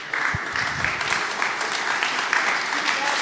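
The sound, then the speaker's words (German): Sustained audience applause at the close of an event at Zentralwerk, a dense crackle of many hands clapping steadily at moderate loudness, with a voice faintly audible beneath it. “Komm, ich will, dass er aufsteht und klatscht.”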